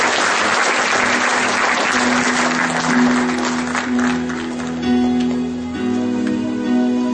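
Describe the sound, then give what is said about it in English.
A church audience claps for the Lord in a dense, sustained wash of applause, while a low steady organ or keyboard tone sounds underneath and shifts chords toward the end. “Come on, everybody give the Lord a clap off.”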